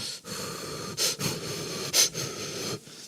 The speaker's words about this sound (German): Ja, ich hoffe, man hört mich dann nicht mehr atmen.